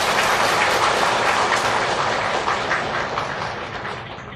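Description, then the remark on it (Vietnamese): A crowd claps steadily to congratulate Buddhist followers on reaching old age, a dense wash of many hands, loud at first and gradually thinning and fading toward the end. “Thêm một tràng pháo tay.”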